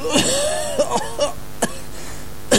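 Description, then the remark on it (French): A run of about six short coughs spaced irregularly, some raspy and voiced with a throaty tone, the first and last bursts loudest, with no talking. “Quand vous toussez, est-ce que vous toussez comme une femme?”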